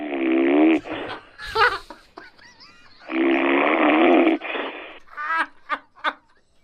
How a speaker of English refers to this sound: You snoring?